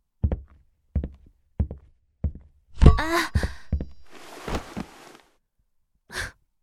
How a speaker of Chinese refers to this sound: 哎，我刚刚踢到了抽屉柜的尖角，好疼啊！